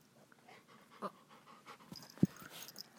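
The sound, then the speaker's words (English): A dog pants in quick, breathy bursts and sniffs its owner's forehead, with one sharp snort partway through. The sounds are soft and no one speaks. “Or do you just want to sniff Mommy's forehead?”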